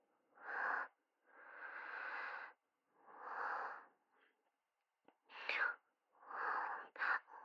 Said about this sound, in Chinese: 我热，我接你电话都是很小声的，所以喘气声听得特别明显。